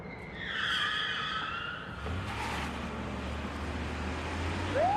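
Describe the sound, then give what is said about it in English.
Two police cars with flashing lights pull up and brake to a stop, tires screeching loudly for about two seconds, followed by the steady low rumble of idling engines and a brief rising tone at the end. “Flashing lights approach. Two police cars stop.”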